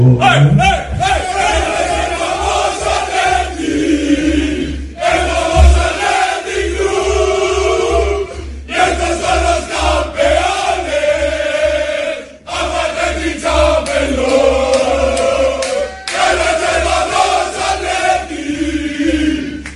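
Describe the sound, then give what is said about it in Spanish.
A large crowd of Atlético de Madrid (Atleti) fans sings a popular club song in unison, loud and rhythmic, with repeated phrases broken by brief pauses, followed by applause. “La cantamos el jueves. Que todo el mundo se la aprenda.”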